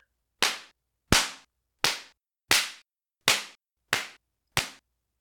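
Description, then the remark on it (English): Seven sharp belt lashes strike skin at a steady rhythm, each a loud, bright crack that cuts off quickly, with silence between blows and no voices. “Or do you need a few more lashes of the belch?”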